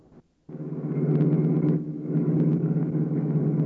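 A car engine roars steadily at speed after a brief pause, a loud, continuous low drone with a faint whine on top, with no voices; the car is being driven fast to follow another car.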